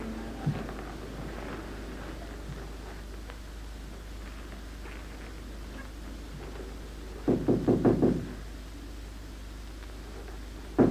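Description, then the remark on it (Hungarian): A quick series of four or five firm knocks on a door, with a single thump early on and a steady low background hum throughout. “Na látod, tudsz te kopogni is.”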